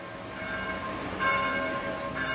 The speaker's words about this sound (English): Bells call the faithful to Sunday morning mass at Saint-Christophe de Javel Catholic Church in Paris's 15th arrondissement.